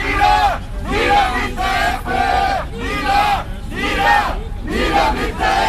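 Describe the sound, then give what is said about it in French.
A crowd of about a hundred far-left protesters chants in unison at a Thursday-evening counter-demonstration against a rally of Austria's far-right FPE party, loud and rhythmic, with shouted phrases repeating roughly every second over a steady roar of many voices. “Ce jeudi soir, une bonne centaine de manifestants d'extrême gauche sont venus exprimer leur hostilité au FPE.”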